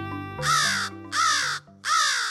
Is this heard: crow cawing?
yes